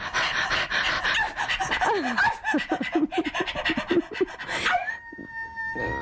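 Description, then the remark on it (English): A human voice imitates a dog, panting and moaning in quick, wavering whimpers that rise and fall, then ends on a long, steady whine. “The doggy moan.”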